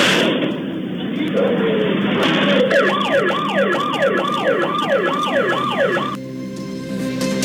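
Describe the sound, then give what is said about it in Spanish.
Neighborhood citizen alarms, set off by neighbors during an assault and car robbery on Calle Muñoz Gamero and recorded by security cameras, blare in fast, repeating up-and-down electronic sweeps over a steady noisy background, starting a couple of seconds in and cutting off abruptly just before the end. “Incluso algunos vecinos se activaron estas alarmas ciudadanas para intentar oponerse a este asalto.”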